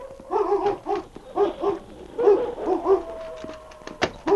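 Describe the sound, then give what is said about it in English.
A pack of wolves cries out in a chorus of short, overlapping yips and wavering howls, repeating in rapid bursts with no voices. “as the cry of the wolf pack sounded again”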